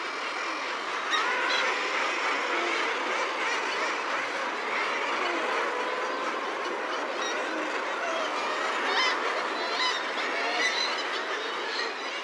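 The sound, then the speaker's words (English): A dense, continuous din of thousands of birds calling at once in a place with almost no people, honking and clamoring in overlapping layers like a huge colony, with no pauses or human voices. “There's a real beauty to that time, living in a place that almost no other human beings, just thousands and thousands and thousands of birds.”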